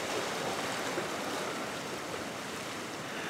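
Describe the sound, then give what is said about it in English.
Pacific Ocean surf washing along the shore by West Cliff Drive in Santa Cruz, California, just before dawn, in a continuous, even roar, with no distinct individual crashes. The steady hiss is fairly loud, and no one is speaking. “taking her daily walk along the ocean near her home in Santa Cruz, California”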